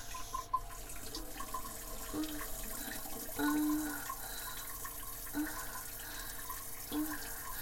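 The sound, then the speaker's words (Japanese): Water from a washlet toilet's rear spray, started at medium pressure, runs steadily, a continuous hissing spray with a faint low hum that swells briefly every couple of seconds. No voices are heard. “水の勢いは最初は真ん中ぐらいで始めます。”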